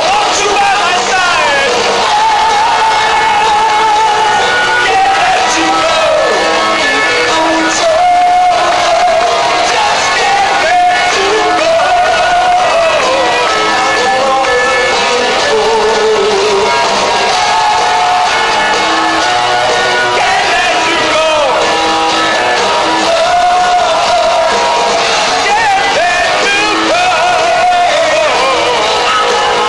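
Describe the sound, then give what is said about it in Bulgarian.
A large Bulgarian concert crowd sings along loudly to well-known songs, many voices merging into a dense, continuous roar with shouts and cheers rising throughout. “българите имат страхотни гласове и през цялото време призоваваше присъстващите да припяват известните парчета.”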